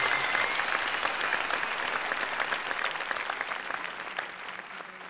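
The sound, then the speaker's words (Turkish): A crowd applauds steadily after a song performance, dense clapping filling the whole stretch at a fairly loud, even level before easing off slightly toward the end. No voices stand out. “Çok güzel bir performanstı ve bu söz yazarı da özellikle bence alkış hak ediyor.”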